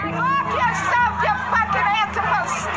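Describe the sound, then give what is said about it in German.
Two crowds of protesters, an anti-Islam group and a Muslim counter-movement, shout at each other from opposite sides of a street in Houston, Texas, on 21 May 2016, in a loud, unbroken clamor of overlapping raised voices, with no single voice standing out. “Da schreien sich zwei unterschiedliche Gruppen auf gegenüberliegenden Straßenseiten an.”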